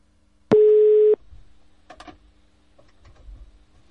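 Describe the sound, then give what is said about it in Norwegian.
A single loud electronic telephone tone signalling another incoming call, steady and buzzy, sounds for about half a second, followed by a few faint clicks and handling noises in an otherwise quiet line. “Men i det jeg skulle til å legge på røret, hører jeg en annen telefon komme inn.”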